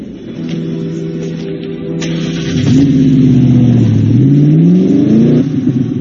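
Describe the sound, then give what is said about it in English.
A car engine runs steadily, then surges louder as it revs and accelerates, its pitch climbing and shifting through gears. The sound is continuous, with no voices. “The car's over there. Nice car. It's a friend's. Would you like to drive?”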